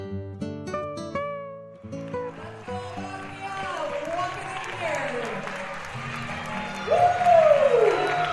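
A crowd cheers and applauds at a celebration with floats, a steady, dense roar that swells after a brief tonal opening, with a shrill whistle cutting through near the end.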